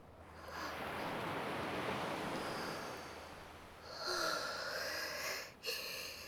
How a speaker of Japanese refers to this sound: 潮の香りがする。波の音も心地いいね。